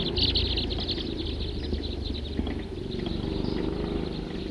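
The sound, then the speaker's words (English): A very big flock of about 50 crossbills calling, with many short, high chip notes overlapping in a steady, busy chatter over a low rumble of background noise. “Very big flock. 50 crossbills.”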